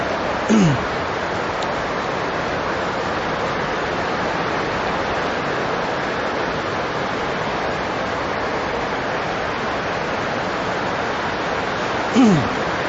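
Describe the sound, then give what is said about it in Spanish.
Heavy rain pours down in a dense, steady roar that fills the whole stretch without letting up, with a couple of brief faint squeaks near the start and end. “Gracias a Dios por la lluvia, ¿no?”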